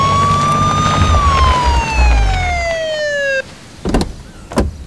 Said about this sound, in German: Es dauerte nicht lange und die drei Fragezeichen hörten, wie sich aus der Ferne eine Polizeisirene näherte. Wenig später rauschte der Wagen von Kommissar Reynolds durch das offene Tor auf die Villa zu.